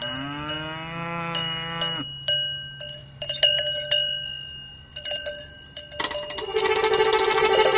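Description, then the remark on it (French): A cow lets out a long, deep moo, followed by the irregular clanking of several cowbells ringing at different pitches, some loud and some softer, in a pasture in the Cantal, with no talking. “ou encore le Cantal au milieu d'un pâturage en compagnie de musiciennes à sabots et à cloches.”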